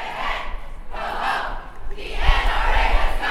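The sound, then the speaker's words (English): A large outdoor crowd of protesters at the March for Our Lives in Athens, calling for gun control, roars and chants in rising and falling waves, a dense wash of many voices with low rumbling thumps underneath, fairly loud. “Some hold signs and posters, others simply wait for the March for Our Lives to begin.”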